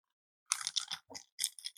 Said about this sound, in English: Oh, that was so ASMR that you were like shaking the glass with the, we should do that on the YouTube channel, by the way,